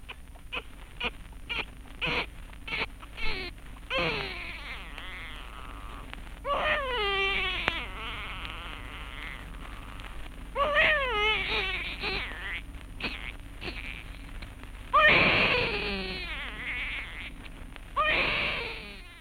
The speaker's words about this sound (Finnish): Pikkuvauvahan siinä itki, taisi saada ensimmäisiä hampaitaan.